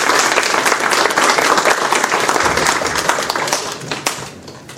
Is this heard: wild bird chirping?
no